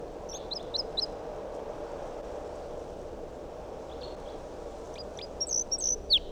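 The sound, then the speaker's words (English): A wild bird up in a big pine tree above a net gives quick, high-pitched chirping calls, a rapid run of four notes at the start and another burst near the end, over a steady background hiss. No one speaks. “Still 8:02 and that wild bird is up in the big pine tree above the net.”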